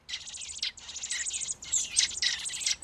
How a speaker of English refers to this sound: I feed them, and then before I can walk inside to cool off, they're hungry again. These are two robins, juvenile robins, not quite ready.